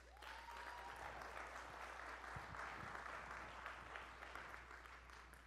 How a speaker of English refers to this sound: And so Austin and Josiah are in Florida working, making it happen, so give them a big hand clap.